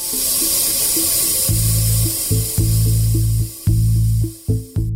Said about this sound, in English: And Ervolina says when nearby horizontal wells are being fracked, the well hiss is louder.